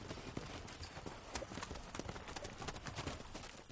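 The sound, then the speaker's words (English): Horse hooves clip-clop in a steady, quick rhythm of sharp knocks in a spacious stable where about 30 horses, mostly Turkmen, are kept, with a busy background of shuffling and faint noise and no one speaking. “This spacious stable belongs to Mr. Niazi, where about 30 horses are kept.”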